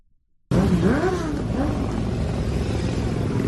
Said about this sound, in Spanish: Ha sido el sonido del fin de semana, concentración motera de más de 4.000 motos con motivo del 25º Motorrock FM Mallorca